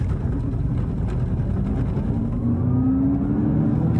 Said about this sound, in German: So, was beim e-tron GT natürlich muss, ist von 0 auf 100. Damit das jetzt funktioniert, musst du Bremse und Gas gleichzeitig drücken? Genau. Und dann sieht man, wie sich hier das aufbaut. Okay. Und jetzt? Und los geht's.